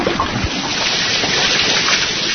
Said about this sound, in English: Must escape the sound of running water!